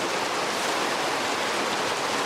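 rain falling

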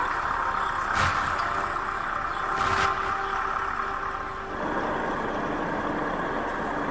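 tractor engine running

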